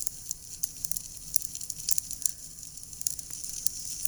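A steady crackling fireplace fire, with irregular sharp pops and snaps over a soft hiss and a low rumbling bed. No one speaks; the fire sounds fairly quiet.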